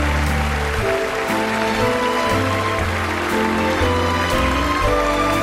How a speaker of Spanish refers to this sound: Y bueno, y lo que está ocurriendo es que se ha puesto en pie el patio de butacas del Dolby Theater para aplaudirles.